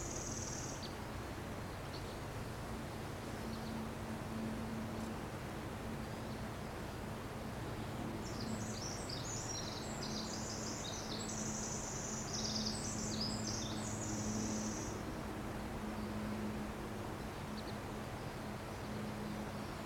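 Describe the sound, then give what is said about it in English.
Birds call from high in the trees overhead, a quick flurry of high chirps bunched mid-way through with a brief call at the start, all faint against a steady, hissing outdoor background. “Here their concerns are in the high trees. My spirit has gone up with the birds.”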